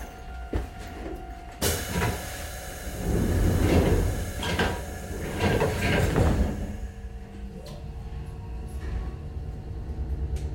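Train doors slide shut at Hakusan station with a sharp thump and a hiss of air, followed by the low rumble and whine of the carriage starting to move toward Gakuen-dori.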